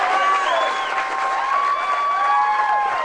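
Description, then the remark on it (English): A large crowd at a political rally for Senator Edwards cheers loudly and continuously, many voices whooping and shouting over a dense roar with some clapping mixed in. No single speaker can be made out. “We're hearing a lot of crowd and not very much of Senator Edwards at this moment.”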